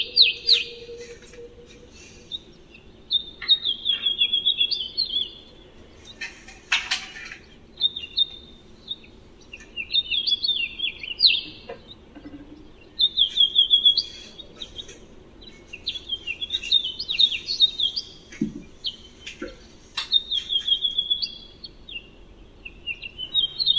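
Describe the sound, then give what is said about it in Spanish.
A house finch (Carpodacus mexicanus) sings a bright, warbling song of rapid varied notes in repeated bursts, clear over a low background hum, with no voices. “Carpodacus. Mexicanos, que es el gorrión mexicano.”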